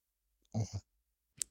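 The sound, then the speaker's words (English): A pet named Meryl, after Meryl Streep, snorts: a short, rough nasal burst with a low rumble, then after a brief pause a single sharp, clicky snort. No one speaks. “I mean, not our generation, but can you hear her snorting?”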